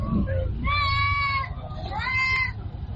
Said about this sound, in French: Nous sommes à Garbal, le marché du bétail de Bobo-Dioulasso. Jadis rempli de moutons à l'approche de Tabaski, il présente cette année un visage inhabituel.